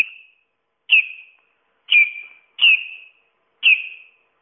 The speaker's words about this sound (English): Artificial bird of the week this week is the bearded tit. Here we go.